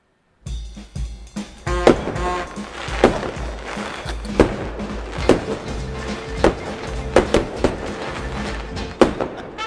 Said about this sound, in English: We got the fireworks to celebrate. We're all ready to go. Honest to God, when I heard that first firework, I'm like kind of ducking these days.